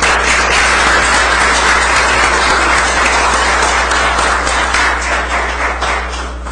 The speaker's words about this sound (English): Please send another round of applause for Officer Sable.